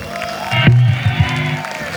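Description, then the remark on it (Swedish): An audience at a live band performance applauds and cheers in a steady, noisy wash of clapping, with a loud whoop or shout rising out of the crowd early on, lasting about two seconds. “Det är de stora applåd.”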